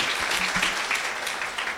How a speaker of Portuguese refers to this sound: Mesmo estando presente, vou dar uma salva de palmas, né?